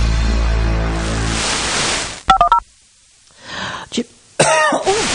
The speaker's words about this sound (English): Oh dear, but I don't know what's happening there. I've got some tickly, tickly cough. That's no good, is it?